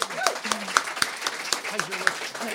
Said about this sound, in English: Big round of applause. Thank you.